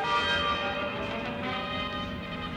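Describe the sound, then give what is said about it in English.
Bells ring together in a sustained, resonant peal, their overlapping tones blending into a steady shimmering wash with no pauses, fairly loud throughout. “Get those bells.”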